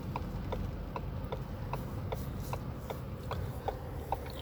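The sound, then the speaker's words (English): A car turn signal ticks steadily, about two or three clicks per second, in a crisp, even rhythm over a constant low rumble of engine and road noise. “Listen to my turn signal.”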